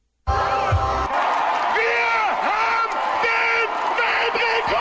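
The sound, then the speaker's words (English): A large crowd of 2,766 people in Germany, gathered to set a Guinness World Record, yells and cheers loudly and continuously, many voices rising and falling together in pitch, with a dense roar of shouting that fills the whole stretch. “I didn't know there was enough about the Smurfs to just yell about, but apparently there is.”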